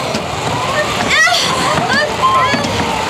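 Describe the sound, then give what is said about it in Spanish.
Heavy, continuous rushing of rough water as giant waves slosh and splash against a fragile single-masted boat while a man steers at the helm, loud, with brief rising voice-like cries cutting through the churning surf. “El hombre increíble conduce la embarcación controlando el timón hábilmente, evitando que alguna de las olas gigantescas lo atrapen por la proa.”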